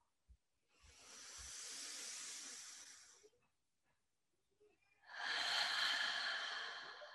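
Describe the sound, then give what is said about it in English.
Deep, slow breathing, taken as deep breaths into the feet: a long airy breath of about two seconds, a short quiet pause, then another long, louder breath. There is no talking. “Let's take three deep breaths to breathe deeply into your feet.”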